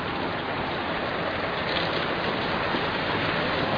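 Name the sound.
rain falling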